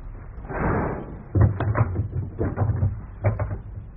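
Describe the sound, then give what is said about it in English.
A window slides shut with a low rumbling scrape, followed by a series of sharp knocks and clunks as its latch is fastened, ending in a final solid click. “Now, the window's secure.”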